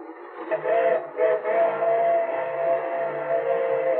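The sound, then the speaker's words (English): A freight train on tracks in rolling countryside near Cortland, coming around a curve, sounds a steady, sustained horn tone, mid-pitched and holding for several seconds over a broad rumbling clatter, with no voices present. “Oh, it's only a freight train.”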